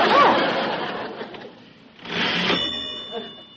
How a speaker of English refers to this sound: That's that old beat-up typewriter Dad used to have. He gave it to me.